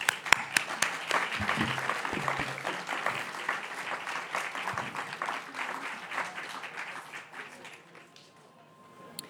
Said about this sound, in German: Trotzdem einen warmen Applaus für Anna Hofmann, bitte.